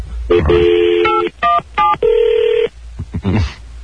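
telephone dialing and ringing

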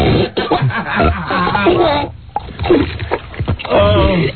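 belching

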